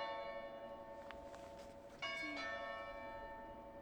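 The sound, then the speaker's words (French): The large bells of Saint-Pierre cathedral on Place de la Canourgue ring, heard from in front of the cathedral, with rich, sustained harmonic tones, a fresh strike around two seconds in swelling the sound, and a long ringing decay. “C'était les cloches qui sonnaient.”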